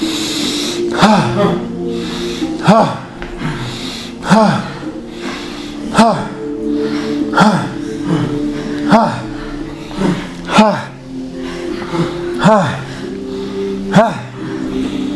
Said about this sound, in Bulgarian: дишай, бастрика